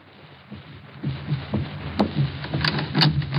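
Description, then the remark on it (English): A door is opened and shut, with a few sharp knocks and clatters of the latch and frame over a low, muffled rumble. No one speaks. “Lock that door.”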